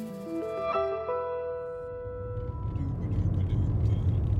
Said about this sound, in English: Asted and I are in the car. We're driving from the capital, Columbia, to Greenwood.